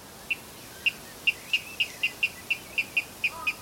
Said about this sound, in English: He had learned the song of the water rail from tapes that his father had been playing to him for several years.